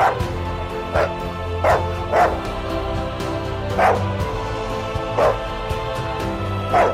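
A dog barks repeatedly, about seven sharp, fairly loud barks at an uneven pace, over a low, steady droning background.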